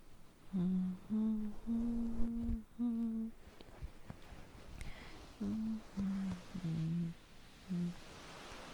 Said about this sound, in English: I hope you don't mind the humming. I like doing it because I find it relaxing, and it's what my mom used to do whenever she had to take care of me when I was young.